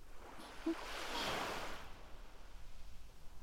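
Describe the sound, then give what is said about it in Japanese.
Ocean waves wash onto a beach, one broad surge swelling up and then drawing back into a steady low hiss of surf. Gentle, with no voices. “都会の喧騒から離れて、海の音って引いて寄せての繰り返し。でも不思議と聞き疲れしなくて眠たくなっちゃいますよね。”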